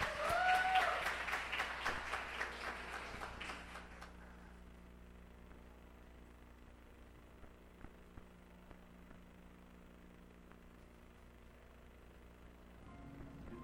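A crowd applauds with dense, lively clapping for about four seconds, then it quickly dies away, leaving a steady low hum and a few faint scattered knocks.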